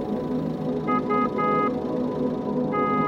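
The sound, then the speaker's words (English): A car horn honks four times in short, uneven bursts, the third held a little longer, with a final blast trailing at the end, all over a steady low rumble of engine and traffic noise. “Why are they pressing the car horn?”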